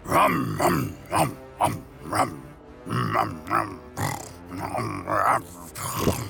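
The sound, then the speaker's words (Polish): A voice imitates a wolf's growling in a series of rough, snarling bursts, roughly ten over several seconds, loud with short pauses between them. “Wilk!”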